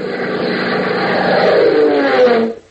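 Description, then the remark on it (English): A sleek, streamlined Beechcraft biplane flies over the open rangeland of Texas under a cloud-flecked afternoon sky, its engine drumming smoothly and steadily, a loud, even propeller drone with a faint rising tone before it cuts off abruptly near the end. No voices. “As a cloud-flecked afternoon sky casts a weird, ever-changing pattern of light and shadow on the open rangeland of Texas far below, a sleek, streamlined Beechcraft biplane, its powerful engine drumming smoothly”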